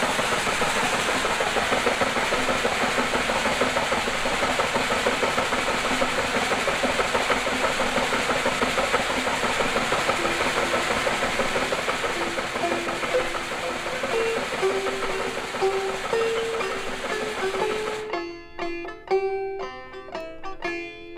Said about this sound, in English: But later on in the years, of course, the miners named this old-timer the Widowmaker. And believe me, they named it right. Have a look at that machine in operation.